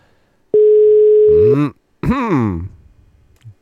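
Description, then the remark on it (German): A single steady ringing tone of an outgoing mobile phone call sounds for about a second, fairly loud and clear, with voices starting to talk as it ends and continuing afterward. “Handy ist auf. Oh, es klingelt. Es klingelt.”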